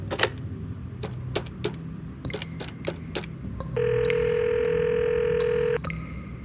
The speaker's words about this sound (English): Back in my office, I quickly consulted my computer, then picked up my phone and called the number we had in the system.